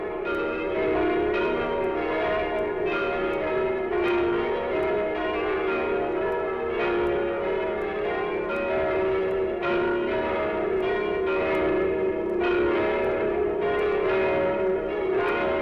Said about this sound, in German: Weit und beschwerlich ist der Weg gewesen, den das Geläute von Bethlehem zu uns genommen hat. Länder und Meere hat es überqueren müssen von dem Ort, an dem der Heiland geboren wurde.